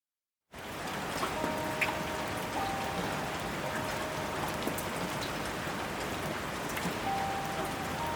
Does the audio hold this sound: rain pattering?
yes